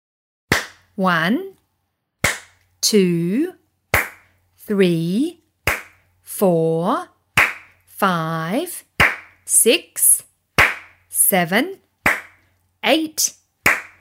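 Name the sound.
hands clapping in rhythm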